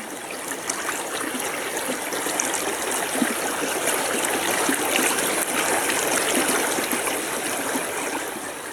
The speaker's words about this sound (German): Stellt euch vor, es ist ganz warm und lauscht einfach mal diesem wunderbaren, herrlich frischen Bergflusswasser, wie es da so entlang plätschert.